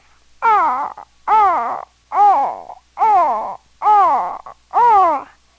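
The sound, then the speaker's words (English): A person imitates a crow, giving six loud, harsh caws in a steady rhythm, each about half a second long with short pauses between, with no other sounds. “This sound just sounds like a crow.”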